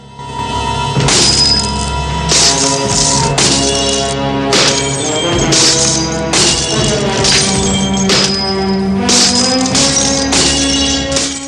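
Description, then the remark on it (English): Loud crashes of shattering glass as Lee throws a coat stand into a tub and smashes mirror after mirror, striking again and again about every second or two, each burst bright and splintering, over a steady musical background with no voices. “Lee throws a coat stand into a tub and smashes mirror after mirror.”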